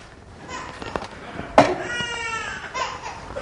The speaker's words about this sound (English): I always say you can't have a good family picture without one child screaming. So we welcome that, however it happens.